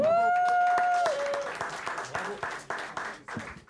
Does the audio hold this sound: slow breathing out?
no